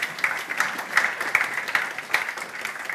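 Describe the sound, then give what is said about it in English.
An audience applauds steadily after a Bible reading, many hands clapping in a dense, crackling patter with scattered sharper claps, holding a fairly even loudness throughout with no voices. “It's good to give her a round of applause.”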